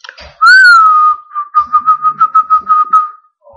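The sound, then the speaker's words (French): Two boys whistle loudly: one long, steady, slightly rising note, then a quick run of about a dozen short, evenly spaced chirps on the same pitch. No one speaks. “Deux garçons sont restés. Ils ont sifflé.”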